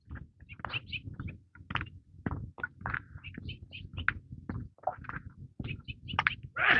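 Outdoors, birds chirp in quick bursts over low background noise, then a sudden loud, breathy sneeze bursts out at the very end.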